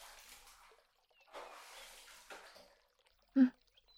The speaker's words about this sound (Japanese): 人とは髪質がちょっと違うからこんなに泡立たないんだ。だからなんだか羊を洗っている気分になるね。さて、じゃあ洗い流すよ。